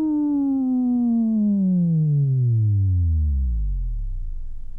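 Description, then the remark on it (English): A steady synthetic sine-wave tone from an oscillator glides smoothly downward in pitch over about five seconds, ending in a deep low hum, loud and alone with no voices. “As, for example, from the lowest, a sine wave,”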